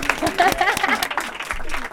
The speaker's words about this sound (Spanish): Ah, where are you from? Denmark. Pero no te De Dinamarca. Denmark. ¡Oh! ¡Un aplauso!